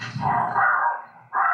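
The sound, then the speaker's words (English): A small Chihuahua and Chinese Crested mix dog barks sharply, two or three high, yappy barks in quick succession with a short pause before the last one. “He's classed as a Chi Chi. So he's a Chihuahua and a Chinese Crested.”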